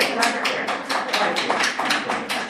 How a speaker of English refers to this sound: And that's what should be happening. Turn around and applaud.